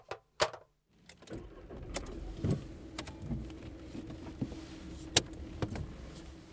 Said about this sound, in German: warum sitzen wir denn jetzt in deinem Auto? Ich dachte, wir wollten spazieren gehen. Ja, du hast recht. Also wir fahren jetzt mit dem Auto aus der Stadt heraus und mehr verrate ich mal nicht.